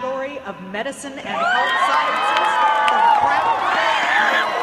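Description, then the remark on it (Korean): A loud crowd erupts into high-pitched, near-screaming cheers and whoops at the 2012 Intel International Science and Engineering Fair award ceremony in Maryland, USA, as the winner is announced and runs to the podium. The cheers swell after the first second and stay sustained and dense, with a few shouting voices standing out. “거의 비명에 가까운 환호를 지르며 시상대 앞으로 달려가는데요.”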